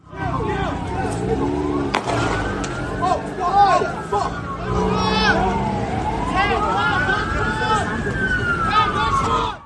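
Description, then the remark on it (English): A sharp, loud gunshot as police fire at a man cracks out amid wailing police sirens that rise and fall continuously, with agitated voices and crowd noise underneath. “It contains sounds of gunfire as police fire at Ms. Battison's client.”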